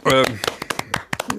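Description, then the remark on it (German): Brief applause welcoming a guest: a short voiced cheer, then a quick, uneven run of sharp hand claps, about nine or ten, fairly loud and lasting just over a second. “Applaus.”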